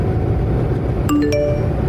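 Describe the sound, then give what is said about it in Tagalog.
A phone notification ding in a car being driven on the road, a quick cluster of two or three bright chiming tones that ring briefly, heard over a steady low rumble of the car interior. “Uy, mamaya na phone mo.”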